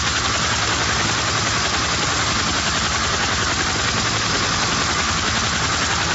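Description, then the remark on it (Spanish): A Black Hawk helicopter engine roars loudly and steadily, its rotor blades producing a rapid, rhythmic low thudding beneath a dense, whining turbine hiss throughout, with no voices. “Capitán María Alejandra Charri, primera mujer en Colombia en convertirse en piloto de helicóptero Black Hawk, ¿qué siente cuando escucha este sonido?”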